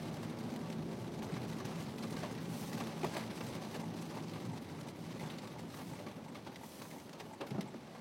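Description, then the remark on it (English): Steady, dense hiss of heavy rain pouring down outdoors, filling the whole stretch with a constant roar and scattered sharper patters of drops. “Oh, it's raining quite hard out here.”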